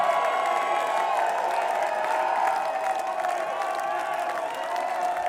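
A large concert crowd at the Eclipse Theater cheers and claps steadily for a band, a dense wash of applause with scattered shouts and whoops rising above it, loud and sustained without a break.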